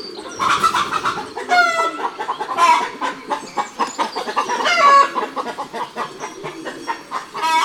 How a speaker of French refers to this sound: Et là, ce sont des poules qui se chamaillent.